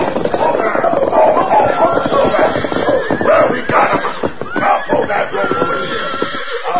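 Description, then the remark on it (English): A busy cluster of unbroken horses neighing and whinnying as they are driven into a corral, with scuffling hoof movement and snorts underneath, continuous and loud for several seconds. “Dan Reed, Tonto, Shorty, and Thunder Martin himself rode hard, shouting at the top of their voices, cutting back and forth to keep the horses in a close pack. They reached the corral and reined up sharply.”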